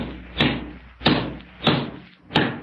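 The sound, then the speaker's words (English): Four sharp hammer blows on nails on a roof land at an even, steady pace, each a loud, bright knock with a short ringing tail, and no voices. “You're pretty handy with a hammer, too. What? Well, you just nailed my coat to the roof.”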